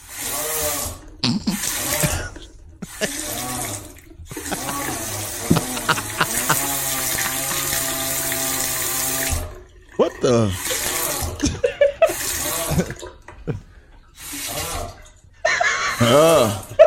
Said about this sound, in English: A Hungarian water faucet that every time you turn on the hot water sounds like a man groaning. We have this video on our Facebook page. Tell me you wouldn't call a plumber yesterday if every time you turned on your faucet you heard this.